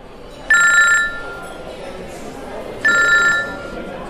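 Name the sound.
cell phone ringing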